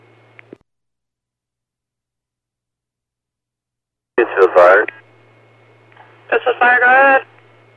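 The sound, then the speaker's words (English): Two bursts of crackly, band-limited fire department radio transmission, a short one and then a longer one after a long silence. Garbled voices reporting a kitchen full of smoke come through the static, with a faint low hum underneath. “the only thing I got out of all that static was the kitchen was full of smoke.”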